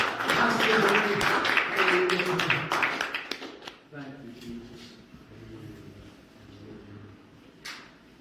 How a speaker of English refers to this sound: Clap up at him together. Hallelujah.